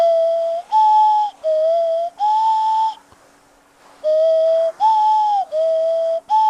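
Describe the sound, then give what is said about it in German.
A flute plays a two-tone Martinshorn (German emergency-vehicle siren) signal while the player races past the audience on a skateboard, alternating low and high notes in a steady rhythm, four tones, a brief pause, then four more. Loud and clear, with no voices. “Während sie an den Leuten im Publikum vorbeirast, bläst sie ein Martinshorn-Signal in ihre Flöte.”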